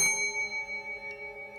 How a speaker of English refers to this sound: Otherwise, I'd hear my manager calling me with the bell